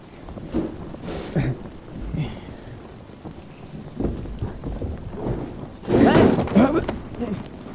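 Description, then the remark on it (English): Steady rain hisses throughout over a crumbling, rotten ruin being dug through, with low rumbles of thunder rolling in and swelling louder near the end. Faint voices murmur underneath at times. “Yeah, well, that'd be easier if I wasn't digging through a crumbling, rotten ruin in the rain.”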